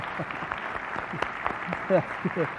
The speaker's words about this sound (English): We love you, brother. We applaud the Lord, and we applaud your life.